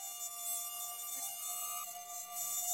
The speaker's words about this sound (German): Willkommen im Mückenparadies. Paradies? Die Hölle ist das hier. Bin ganz zerstochen.